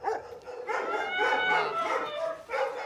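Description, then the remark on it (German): Several dogs bark and howl together at an animal shelter in Lübeck, in overlapping, drawn-out cries, a continuous chorus of yips and wails, fairly loud, with no talking. “Schwer erziehbare Hunde, ausgesetzte Katzen.”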